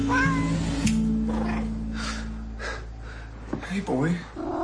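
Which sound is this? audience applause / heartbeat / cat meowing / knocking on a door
cat meowing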